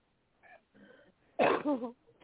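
A person blows their nose in one loud honking burst that trails off, preceded by a couple of softer snuffling breaths.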